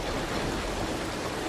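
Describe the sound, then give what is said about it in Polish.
A small stream in a video game flows with a steady, continuous rushing hiss of water, even in level throughout, with no voices. “O, jakiś strumyczek.”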